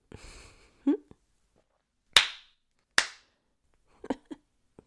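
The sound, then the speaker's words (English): A person slaps their own bare buttocks, wearing string bikini bottoms: two sharp, loud hand slaps on skin land about a second apart, each with a quick fleshy smack and short decay, framed by brief murmurs and soft vocal sounds. “My butt. You like it when I slap it?”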